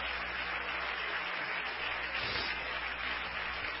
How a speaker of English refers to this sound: Somebody clap your hands again to the Lord and praise Him.